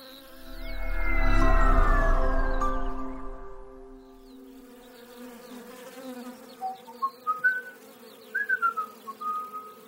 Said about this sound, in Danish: Det er hende, der går og fløjter.